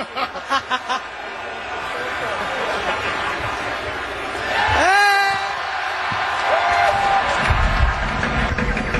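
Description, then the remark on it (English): A crowd cheers wildly with a steady roar of voices, opening with a few rhythmic shouted bursts and peaking midway in a loud, rising whoop, as P.J. Ducker takes a big swig of champagne at a championship trophy celebration, spilling it over himself and the trophy. “The crowd goes crazy.”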